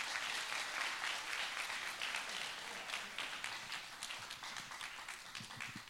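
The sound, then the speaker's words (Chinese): Sustained applause from a crowd for people from the back rows being invited to come forward, a dense steady wash of many hands clapping that stays loud for the whole stretch, with no voices standing out. “给点掌声他们啊。”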